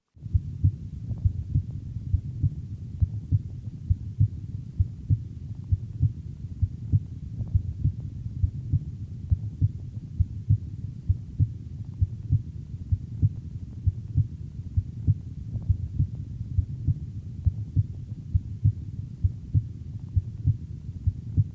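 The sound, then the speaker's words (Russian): Normal heartbeat heard through a stethoscope at the third auscultation point, the second intercostal space left of the sternum: steady, evenly paced lub-dub thumps, low and muffled, repeating throughout over a soft background hum, with no voices. “В третьей точке аускультации, во втором межреберье, слева от грудины, соотношение тонов сердца такое же, как и над аортой.”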